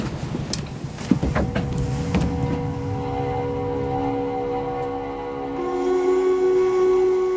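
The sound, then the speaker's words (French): A boat engine starts up and settles into a steady droning hum, with a few sharp metallic clanks early on as the anchor is raised. No one speaks. “Mets le moteur, on lève l'ancre.”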